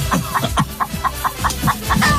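Chickens cluck in quick, repeated bursts, a steady run of short, close, fairly loud calls overlapping one another with no one talking.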